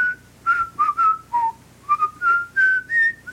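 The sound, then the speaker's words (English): A person whistles a short melodic phrase from a song, about ten notes, rising and falling in a bouncy, tune-like rhythm, clear with no talking. “It's like, they whistle part of it.”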